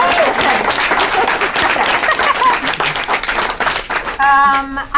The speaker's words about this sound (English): Okay, so I'll clap for that.